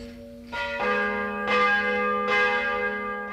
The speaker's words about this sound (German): Das Mittagsläuten kommt heute von der Kuratiekirche Marie Himmelfahrt im oberbayerischen Hirnsberg.